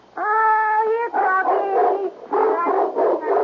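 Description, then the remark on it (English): A Doberman Pinscher gives a long, high-pitched whine, then a string of shorter whimpering yelps and bark-like cries, loud and continuous, with no people talking. “Yes, a Doberman Pinscher.”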